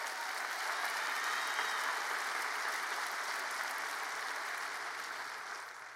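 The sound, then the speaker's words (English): A church audience gives God a hand clap in a steady, dense wash of applause that holds for several seconds before tapering slightly at the end, with no voices standing out. “Give Him a hand clap in this house today.”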